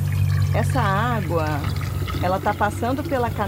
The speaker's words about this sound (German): Sie ist Biologin und nimmt gerade eine Wasserprobe aus einem der Abwasserkanäle, die in den See münden.